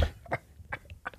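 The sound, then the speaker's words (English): A person makes a quick purring noise with their voice into a microphone, a few short, rough, throaty bursts with a low rumble, fairly quiet and with no words spoken. “I think you purred into the microphone.”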